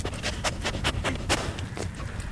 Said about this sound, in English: That sniffing you hear is Tilia, the conservation dog at Mequon Nature Preserve. Right now, she's looking for a treat. But when she's on the job, she'll be sniffing out wild parsnip or salamanders.